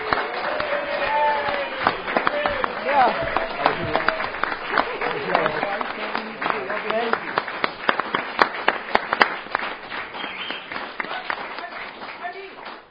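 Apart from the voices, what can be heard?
audience applause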